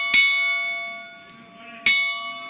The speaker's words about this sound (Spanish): Los primeros golpes de campana, primeros toques de campana.